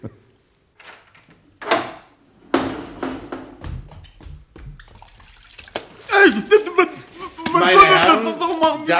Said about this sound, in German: Also wenn Sie jetzt so gut wären, die Türe ganz leise zu öffnen, um mich, ohne dass er aufwacht, mit diesem Schwamm hier an seinen Wasserkrug zu lassen.